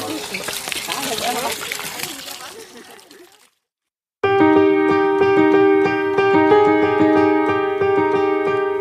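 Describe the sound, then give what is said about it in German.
A shower of water sprays steadily on pigs on a hot day for about three seconds, with a voice faintly underneath, then fades out; after a short silence, loud sustained music begins. “Dann machen wir eine schöne Dusche für die Schweine.”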